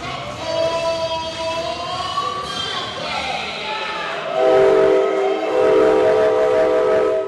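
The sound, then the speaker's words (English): A train rumbles past on railroad tracks right near a stadium, its horn sounding in long, sustained blasts that grow louder midway through, with a steady mechanical roar underneath. “And their stadium is right near the railroad tracks, and they really like to push the whole railroad theme.”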